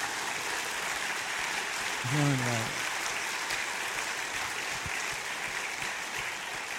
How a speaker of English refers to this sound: Another round of applause for me.